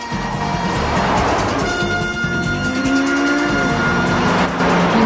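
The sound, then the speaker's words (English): A commandeered motorcycle chasing a taxi roars at speed, loud and continuous for about five seconds, its whining pitch climbing steadily. Traffic noise and a thin tire-like squeal run underneath. No one speaks. “With a determined expression on his face, he speeds after Lee's taxi.”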